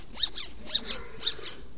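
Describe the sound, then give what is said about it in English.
A banana being peeled, heard as three quick, zipper-like rips spaced evenly about half a second apart, each a bright, high-pitched tearing squeak with no voices. “I will hurry and peel the banana.”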